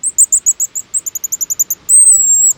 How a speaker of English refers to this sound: These shrill notes belong to a little seabird, the pigeon guillemot. Cousin to the puffins, whistling over the waves along the Pacific coast.